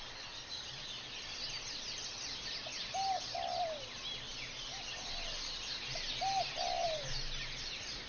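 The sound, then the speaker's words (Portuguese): A steady chorus of small birds chirping and twittering throughout in the background, with a few soft, low dove-like coos in pairs drifting in partway through. No one speaks. “e som de passarinho no fundo”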